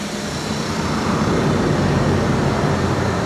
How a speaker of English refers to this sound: What the fuck? That's literally like 10 scooters all driving together, like a scooter gang. There's a lot of goddamn scooters around here, man.